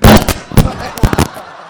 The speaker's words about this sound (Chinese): 今天是个好日子，砰砰放上炮了啊！